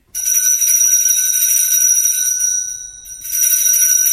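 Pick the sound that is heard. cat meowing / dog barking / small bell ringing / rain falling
small bell ringing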